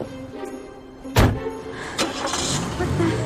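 A sharp thump as a man gets into his car, then the car engine starts and keeps running as he quickly backs out of an inn's driveway, a steady mechanical rumble filling the last couple of seconds.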